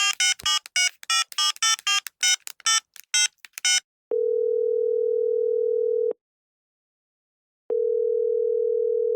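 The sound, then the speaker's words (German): A rapid series of short touch-tone dialing beeps as a phone number from an email is dialed to call its sender, then a steady telephone ringback tone sounding twice with a pause between, clear and fairly loud with no voices. “Genau, das machen wir jetzt nämlich nicht mehr per Ping-Pong-E-Mail-Verkehr. Die rufen wir an.”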